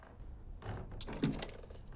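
A door lock being picked: soft, irregular metallic scraping and small clicks, with a brief sharper rattle partway through, all fairly quiet and with no voices.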